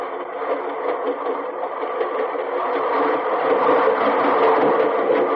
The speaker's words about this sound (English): and you see this train, 120 cars going past, all loaded, reefers. Listen to that. There go the reefers pass.